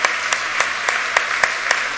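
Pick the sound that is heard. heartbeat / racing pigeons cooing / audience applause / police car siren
audience applause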